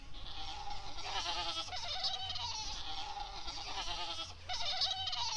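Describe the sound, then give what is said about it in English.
Several goats bleat in overlapping, wavering cries that come in bursts, loud, with a busy herd murmur running underneath throughout, as the goats gather one by one at sunset to go home. “All the goats came one by one and stood next to Al-Mi'za Saniya.”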